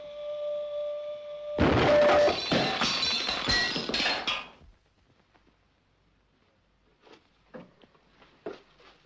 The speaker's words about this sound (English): There's no time to try again. If a piece of material no bigger than a pinhead can cause an explosion like that, can't you imagine what would happen out there?